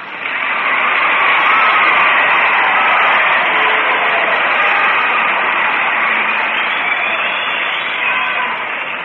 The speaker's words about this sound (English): And now we'll find out by popular applause who are the winners tonight here at Hometown Jamboree in our waltz contest.